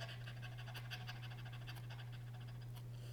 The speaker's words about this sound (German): Wir fangen mit einer Zwerchfellübung an. Oder diese können auch schneller gesprochen werden. Oder versucht einmal zu hecheln und spürt euer Zwerchfell.